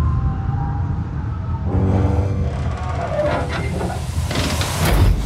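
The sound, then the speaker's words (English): A heavy, old door grinds and groans as it swings shut over a constant low rumble, its creaking rising midway before a louder, dull closing thud near the end. “This door are really ancient and heavy.”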